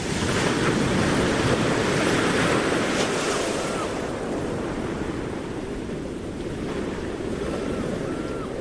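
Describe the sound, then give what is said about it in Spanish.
Steady roar of surf breaking on Itxurun beach in Zumaia, on the Gipuzkoan coast, dense and continuous with a slight swell early on, mixed with gusty wind rumble against the microphone; no voices. “aquí conectamos con nuestros arenales para conocer la situación de nuestras ondartzak. Empezamos por la costa guipuzcoana, Zumaia, playa de Itxurum”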